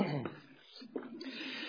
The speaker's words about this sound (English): But excuse me. Don't be afraid of that cough. I'm going to let it all out. It's just I've been talking too much, cough.